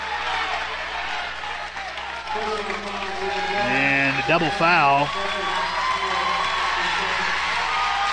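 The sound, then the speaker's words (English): A basketball gym crowd, fans of both teams, roars and cheers steadily during the third quarter, with a sharp whoop rising above the noise midway, while an announcer talks over the din. “And got both fans from both teams up and cheering on that one.”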